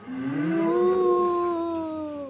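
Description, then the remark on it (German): A single long, low cow moo rising slightly then holding steady for about two seconds, fairly loud, with no talking. “Von diesem Lärm wacht die Kuh Gertrud auf”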